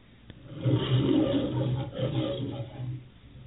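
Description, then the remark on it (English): A lion's roar sound effect, loud, rising into a deep, rumbling growl that holds steady for about three seconds with no voices over it. “He's actually going around as a roaring lion.”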